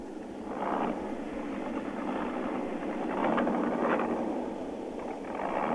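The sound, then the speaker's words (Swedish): A steady, low engine rumble of armoured vehicles idles continuously at night on the palace square in Bucharest, Romania, with faint swells in the noise and no voices. “Det var bara pansarvagnens motorer som bröt tystnaden i natt på palatsplatsen i Bukarest där de blodiga striderna stod för 10 dagar sedan.”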